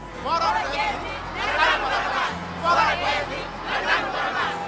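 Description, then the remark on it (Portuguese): A large crowd shouts and clamors together, many overlapping voices rising in surging waves of yelling and babble, loud throughout. “Tudo o multidão grita tudo junto e fala.”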